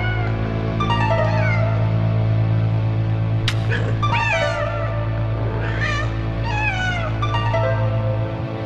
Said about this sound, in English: It's just they found a bunch of recorded cat fight sound effects. Yeah, like somebody has a needle and is pricking his little toe beans and hurting him because that's what it sounds like. It sounds like meh, like he's screaming.